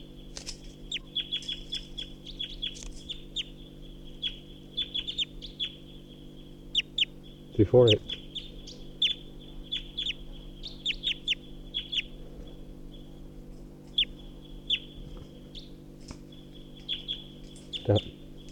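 A wild bird perched in a tall pine above a net sings a long run of short, high chirpy notes in quick irregular bursts over a steady low electrical hum, with two brief louder knocks breaking in.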